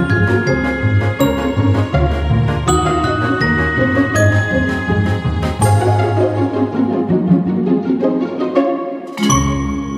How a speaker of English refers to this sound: It's still the same on Mac. On Windows, it's different now, finally, thankfully. But there's something about the Skype ringtone that is just, it like bubbles up all the anxiety in me in like a really bad way.